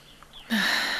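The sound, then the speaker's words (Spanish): A single deep breath drawn in: a soft, airy rush that starts suddenly after a brief hush and holds steady to the end. “Sigo respirando.”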